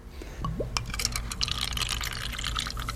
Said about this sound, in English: First, samples from our soda, the one from the 1979 newspaper, are poured into little cups.